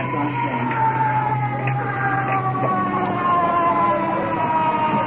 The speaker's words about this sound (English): Let's hope that's the iron, Mom. That's not the end of, or the, is that the ambulance yet?